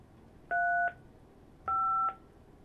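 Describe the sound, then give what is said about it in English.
Two separate touch-tone phone keypad beeps as a conference access code is entered, each a short steady dual-tone press about a second apart, clear against a quiet background with no talking. “Please enter your conference access code, followed by the pound key.”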